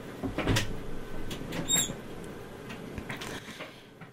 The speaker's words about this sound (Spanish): Siento que, perdón, estoy peleando con la silla